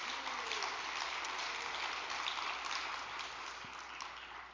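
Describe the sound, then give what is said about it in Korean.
Sustained applause from an audience in thanks to an association president and branch leaders, a dense steady wash of many hands clapping that holds at an even loudness throughout and eases slightly toward the end, with no voices over it. “감사의 큰 박수를 좀 보내주시기 바랍니다.”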